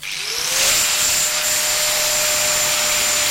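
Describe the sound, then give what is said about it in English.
Boatyard workshop machinery in the village of Wroxham on the Norfolk Broads whirs up to speed within the first half second, then runs on as a loud, steady roar with a sustained high-pitched whine. No voices are heard. “The busy workshops dotted around the boatyard might seem an odd place to begin our boat trip on the Broads, but it's the skills used all year round in here that mean that you and I can have a safe and comfortable holiday out on the water.”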